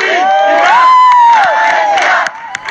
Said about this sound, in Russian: это приветственные крики. Под приветственные крики местная полиция грузит урны так, чтобы с сиренами вывести их и спасти от федеральной полиции.